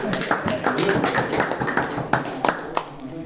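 An audience at a Low German (Plattdeutsch) gathering applauds a speaker, a steady wash of many overlapping hand claps at a fairly even level, with a few sharper, louder individual claps standing out toward the end.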